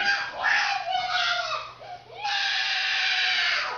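A child screams in a tantrum at dinner time, angry, kicking and screaming while being carried by her father: two long, loud, piercing wails separated by a brief catch of breath, with no talking.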